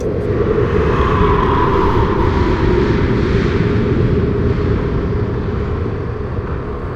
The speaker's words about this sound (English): Exhaust gears and heating fans. Down. Engineering's right on the other side of the hole there. Those big gears are a few of the station's exterior moving parts. Don't mess with them.